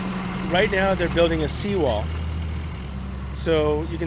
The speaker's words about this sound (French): Pour sauver des dizaines de maisons, des ouvriers bétonnent en continu ces parois effritées et des camions déposent d'énormes rochers et des milliers de tonnes de sable à ses pieds, rempart désespéré face à la montée de l'océan.